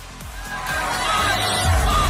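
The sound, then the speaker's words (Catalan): A large crowd shouts "Stop Genocide" during Israel's performance in the first Eurovision semifinal, a dense, steady roar of many voices that swells slightly and holds loud and continuous for about two seconds. “I quan falten pocs dies per a Eurovisió, un any més el festival va censurar els crits de Stop Genocide durant l'actuació d'Israel en la primera semifinal.”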